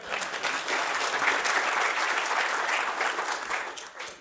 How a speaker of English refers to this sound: Thanks, Craig. A round of applause for Craig.